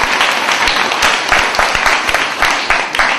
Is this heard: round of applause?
yes